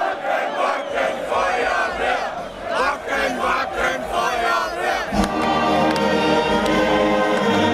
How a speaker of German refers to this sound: Rund 15.000 Zuschauer feiern die Musiker, die ihren Auftritt ganz traditionell beginnen.